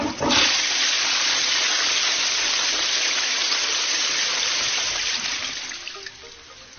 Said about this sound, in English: we should all consider how we deal with our waste and give a thought or two before flushing our toilets.